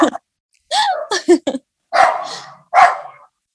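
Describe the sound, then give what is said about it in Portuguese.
A dog named Snoopy barks in a short series: a few quick, choppy yaps followed by two louder, fuller barks with a pause between them, with no one talking over them. “Participação especial. Au, au.”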